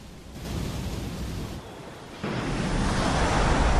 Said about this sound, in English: Reaching up to over 200 metres, the cliffs of Moher are pummeled by over 1,000 tons of water in every wave. Waves pounding the coastline in slow motion.